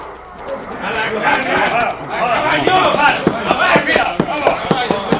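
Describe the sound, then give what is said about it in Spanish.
Horse hooves clip-clop in a quick, fairly steady rhythm as General Maceo quickly mounts his horse, growing more distinct toward the end, over a busy background of indistinct voices and commotion. “Sobreponiéndose a su malestar físico, monta rápidamente su caballo.”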